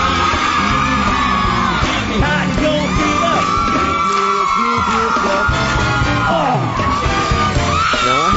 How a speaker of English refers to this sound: Were they really screaming at you, or did they tell them to scream at you? They were really screaming. It was crazy.